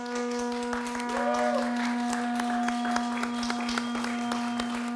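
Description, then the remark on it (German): An audience claps steadily for about five seconds, a dense, irregular patter of hand claps over a constant low humming tone, with a brief rising-and-falling whistle-like sound early on. “Wer jetzt klatscht, dann soll es weitergehen.”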